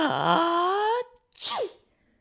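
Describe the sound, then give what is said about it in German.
A loud, theatrical sneeze performed by a voice: a long rising, wavering inhale "ah-ah" build-up followed by a sharp, breathy "choo" burst, imitating a dragon sneezing after dandelion fluff tickles its nose, with no other talk. “Der Drachen muss niesen.”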